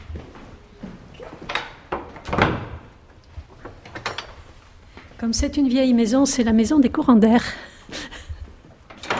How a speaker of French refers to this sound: Avec des vieilles portes. Donc ici, c'est la porte de clôture. Symboliquement, c'est par là qu'on rentre et qu'on sort. C'est aussi une vieille porte.